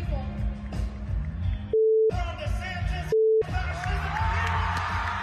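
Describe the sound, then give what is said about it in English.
Two steady, mid-pitched censorship beeps cut in over loud crowd noise and shouting, each lasting about a third of a second and completely replacing the sound beneath them, bleeping Representative Maxwell Frost's profanity as he says "F DeSantis" and "F fascism". “You can't even hear it because the beep is most of it”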